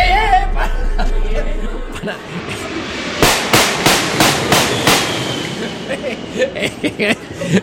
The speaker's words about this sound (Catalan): El nostre amic se situa al fons de la pista d'enlairament de l'aeroport, esperant que algun avió s'enlairi. Val. De cop, un Boeing 747 li passa pel damunt i ell comença a fotre-li trets.